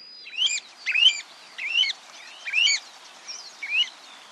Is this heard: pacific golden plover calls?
yes